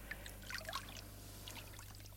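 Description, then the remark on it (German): Waves lap gently, with soft, irregular splashes and trickles over a steady low background hum. The sound is quiet, and no voices are heard. “Ich höre nur die Wellen.”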